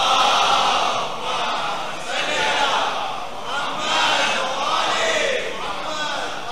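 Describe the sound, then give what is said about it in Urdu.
A large crowd recites the salawat (blessings on Muhammad and the family of Muhammad) together in unison, their voices rising and falling in long rhythmic waves, loud and continuous, filling the space with a sustained collective recitation. “ایک درود بھیجا محمد آل محمد.”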